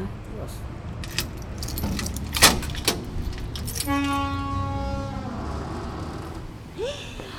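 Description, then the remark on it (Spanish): Keys jangle and clink in a bright metallic burst for a couple of seconds as a door is unlocked, followed by a steady tonal hum and a few more faint clicks against a low background rumble. “¿Tenés las llaves? Sí.”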